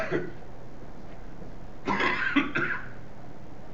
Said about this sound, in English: Sorry for the cough.